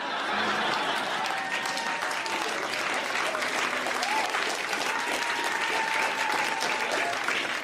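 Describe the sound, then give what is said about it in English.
Steady, dense applause from a crowd after a speaker announces his engagement, a continuous wash of many hands clapping at even loudness for several seconds, with faint murmuring voices mixed underneath. “Everyone's clapping for her in that ring.”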